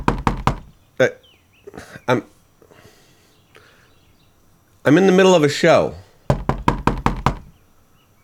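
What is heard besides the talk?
knocking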